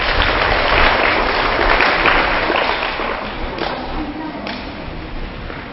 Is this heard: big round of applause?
yes